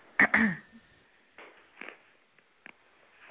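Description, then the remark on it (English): A harsh throat clearing bursts out near the start, followed by a few faint, scattered rustles and small noises in an otherwise quiet background. “I hear you clearing your throat over there.”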